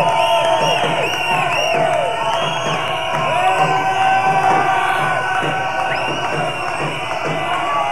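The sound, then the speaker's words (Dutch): A crowd of about seventy-five supporters jeers and shouts continuously outside, a dense roar of overlapping voices with whoops and hollers rising above it, loud and unbroken throughout. “Vijfenzeventig sympathisanten buiten te joelen.”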